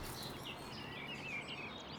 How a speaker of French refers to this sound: Et puis, en fait, on est dans une forêt périurbaine. Donc là, par exemple, on entend la route, mais on entend aussi les chants d'oiseaux. Donc là, on est typiquement dans cette ceinture extérieure de la ville.